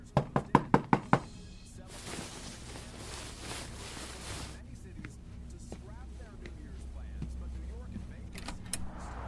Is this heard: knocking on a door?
yes